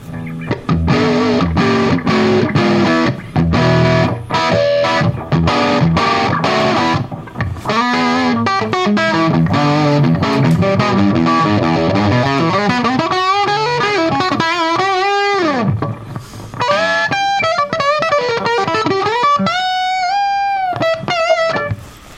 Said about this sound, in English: Now, let me ask both of you guys, that distortion that you're getting, are you pushing the speaker, or is that really coming from the preamp going in the power amp? Is that basically in the amp, or are you actually really driving that speaker?